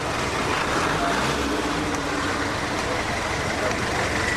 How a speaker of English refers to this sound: These days, you'll find cars stuck in traffic with their engines turned off in a desperate bid to save fuel.